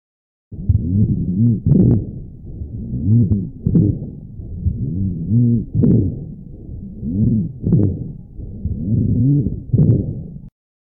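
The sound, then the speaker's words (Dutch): Low, coarse rumbling rhonchi heard through a stethoscope, often caused by mucus narrowing the large airways, repeating with each breath in a steady rhythm of snoring, gurgling bursts, with no talking over it. “Maar ook bij andere vormen van obstructie kun je bronchi horen.”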